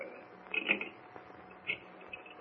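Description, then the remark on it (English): Faint mechanical clicking of a telephone being dialed, a few short bursts of sharp ticks separated by brief pauses, with no voices. “What's that clicking noise, Ken? He's dialing a phone number.”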